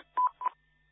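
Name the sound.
telephone keypad dialing tones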